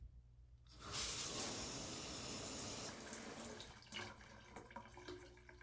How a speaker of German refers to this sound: So, genug. Ab in die Dusche.